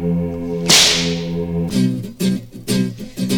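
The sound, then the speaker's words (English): A single sharp, loud whip crack snaps out over a steady electronic hum, ringing off briefly before a pulsing, rhythmic music track kicks in. “Okay, where's my whip?”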